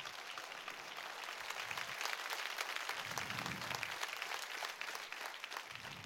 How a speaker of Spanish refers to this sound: No lo dé por parcelas, délo completo ese aplauso, hombre.